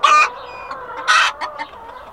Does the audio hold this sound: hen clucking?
yes